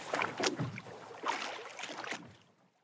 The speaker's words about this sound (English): Dan, Lynn, and Eve are in a boat. Row, row, row.